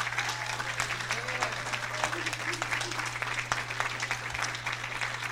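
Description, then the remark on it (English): A church audience gives its pastor a round of applause during pastor's appreciation, with dense, continuous clapping that stays loud throughout, a faint low electrical hum running underneath. “And I'd like the congregation just to give a huge round of applause for this man.”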